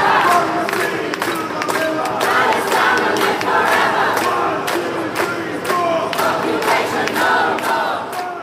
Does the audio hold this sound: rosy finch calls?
no